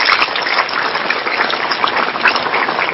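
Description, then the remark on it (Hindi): A crowd claps steadily and loudly to welcome a professor as a guest, a dense, even patter of many hands that stays at the same level for the whole stretch, with no voices rising above it. “मैं आप सबसे आग्रह करना चाहता हूं कि सभी बहन भाई तालियां बजाकर उनका स्वागत करें।”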